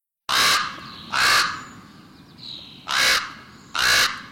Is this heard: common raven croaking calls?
yes